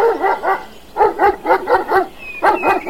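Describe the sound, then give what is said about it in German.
A farm dog storms out of its kennel by the cowshed and barks to drive off an intruding kitten, in quick, steady bursts, about nine sharp, mid-pitched barks with a brief pause midway, loud and alone without any talking. “Doch kaum hatte das Kätzchen ein bisschen Milch geleckt, so kam auch schon der Hofhund aus seiner Hütte gestürmt und wollte den Eindringling vertreiben.”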